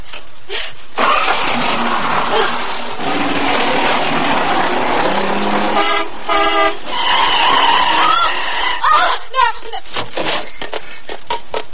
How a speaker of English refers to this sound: Start the car, Miss Benson, and drive until I tell you to stop.